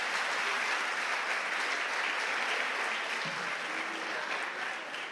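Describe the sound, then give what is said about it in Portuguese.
An audience applauds Jesus steadily for about five seconds, a dense, even wash of many hands clapping at a constant loudness, with no voices standing out. “Dá um aplauso a Jesus.”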